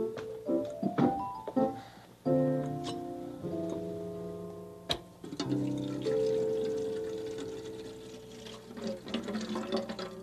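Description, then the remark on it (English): Water pours steadily into a whistling kettle, filling it before it goes on the stove, its ringing tone shifting as the vessel fills, with a few brief metallic clunks partway through. Fairly loud, with no talking. “That'll be enough water to make it whistle.”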